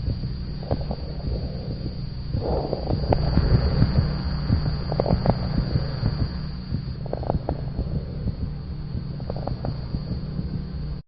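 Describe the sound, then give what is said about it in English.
Dog lung crackles from bronchitis: scattered brief popping clicks riding on a muffled, low breathing rumble that swells and fades in cycles, with soft heartbeat thumps showing sinus arrhythmia underneath and no talking. “Listen now to a recording of a dog with crackles associated with bronchitis.”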